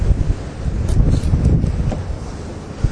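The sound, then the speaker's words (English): A steady, rumbling wash of ocean waves rolling in, continuous and fairly loud, with gusty wind buffeting the microphone and no voices. “It's not raining, it's the ocean washing in here.”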